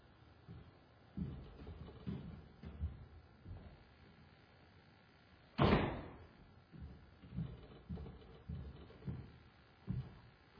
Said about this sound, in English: Wow, that was weird. Our side door blew open. I don't know whether it was somebody, maybe we've got angels here. I don't know. But it's weird. It did blow open.